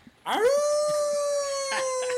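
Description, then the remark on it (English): A person imitates a wolf howl about 12 inches from the microphone: the voice swoops upward, then holds one long, steady note for about two seconds, moderately loud, with no talking. “And I will do one anytime howl, but I'm not going real loud because I don't want to blow anyone's eardrums.”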